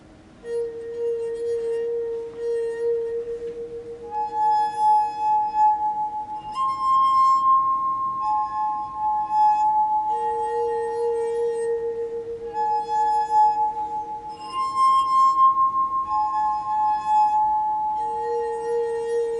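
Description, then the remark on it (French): Wet fingers circling the rims of glasses, presented as a mock school bell for recess, producing sustained, pure singing tones at a few different pitches that overlap and shift, steady and fairly loud with no talking. “Bravo à ceux qui ont trouvé qu'il s'agit d'un doigt mouillé tournant sur des verres.”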